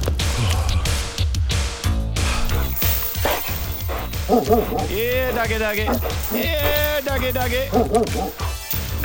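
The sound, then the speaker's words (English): A dog barks and whimpers in short, pitched yelps through the second half, set against a loud, busy bed of crashing and thudding noise that runs the whole time. “Doggy, down.”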